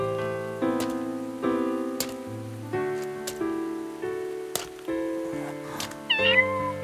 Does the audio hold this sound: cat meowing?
yes